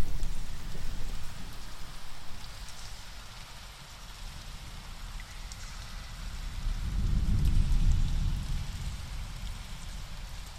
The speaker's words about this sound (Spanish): Entras en él. La lluvia fuera cae sin cesar.